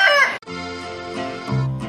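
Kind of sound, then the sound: bird, rooster crowing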